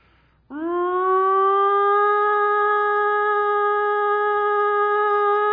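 A loud tornado siren kicks in abruptly and rises into a steady, sustained wail that holds for several seconds with no voices present.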